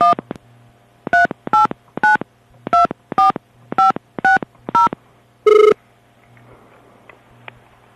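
A rapid series of about nine short touch-tone beeps as Swimming World Magazine dials a call from the United States to Brisbane, Australia, followed by a single longer tone, then quiet line hiss. Clear, with no voices.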